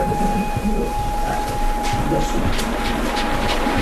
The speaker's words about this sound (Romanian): Orient Expressul. Între brazi în întuneric, luminile vagoanelor gonesc ca un lanț de licurici.